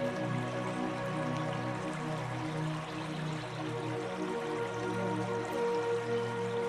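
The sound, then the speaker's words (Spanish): A river flows steadily through woods, its water gurgling and trickling in a continuous, even wash of sound with no voices, holding a constant moderate level throughout. “Tumbarte frente al río y dejarte arrollar por su tranquilizador sonido.”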